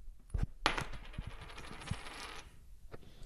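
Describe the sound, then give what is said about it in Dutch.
A coin tossed for heads or tails strikes a hard surface, then rattles and spins with a bright, shimmering ring for a couple of seconds before settling on tails, followed by a faint final tap. Fairly loud, no voices. “Nou ja, dan gaan we kop of munt. Hier komt ie.”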